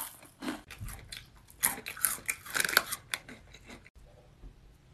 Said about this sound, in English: Who the fuck is chewing so loud?